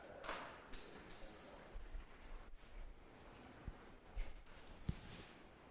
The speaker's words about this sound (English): I hear pages turning.